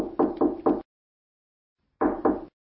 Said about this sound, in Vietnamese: Tôi gõ một cánh cửa.